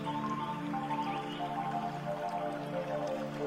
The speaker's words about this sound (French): Tu remarques aussi un ruisseau qui serpente à travers les arbres. Et tu peux entendre le doux murmure de l'eau qui s'écoule, créant une mélodie délicate et apaisante.